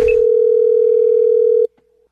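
A single steady ringback tone on an outgoing phone scam call, loud, holding for over a second before cutting off abruptly with a faint click. No one speaks.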